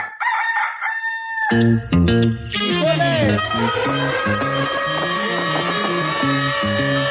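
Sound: rooster crowing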